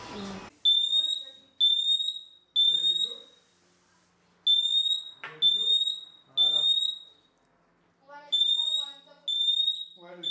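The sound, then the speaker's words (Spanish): The loud built-in siren of a standalone optical smoke detector, set off with a smoke detector test spray, shrills at 85 decibels at 3 metres in repeating groups of three piercing high beeps with short pauses between sets, with brief bits of talk in the background. “Como podéis escuchar, la sirena incorporada es potente, emitiendo un sonido de 85 decibeles a 3 metros.”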